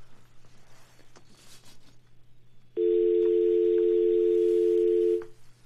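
A loud, steady telephone dial tone starts abruptly partway through, holding a constant pitch for about two and a half seconds before cutting off, after quiet line noise with a low hum.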